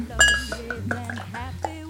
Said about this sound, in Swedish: Jag har alltså ingen alkohol i den. De är alkoholfria. Skål på dig.